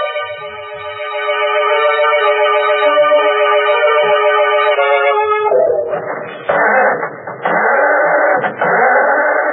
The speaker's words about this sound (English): Can't understand it. The motor won't turn over. Somebody must have meddled with this car while we were in the house.